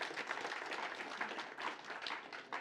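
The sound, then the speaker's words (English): A crowd gives a round of applause for everyone who worked on the program, including the kitchen crew and logistics: a steady, dense crackling wash of many hands clapping at once with slight swells, fairly soft overall and without any voices. “Why don't we just go ahead and give her kind of a round of applause for everyone doing what they did.”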